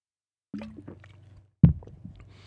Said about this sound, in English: Excuse me, I'm going to have to take a sip of water here.